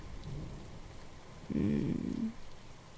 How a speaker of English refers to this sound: You plan on holding me all night through the storm, baby? I love the rain.